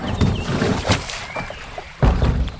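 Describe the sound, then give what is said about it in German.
Hollow wooden knocks and creaks with soft water sloshing as a small rowboat rocks, a heavier thump near the end as someone boards and weight shifts aboard, no voices. “ich scheuche ihn spielerisch ins Boot.”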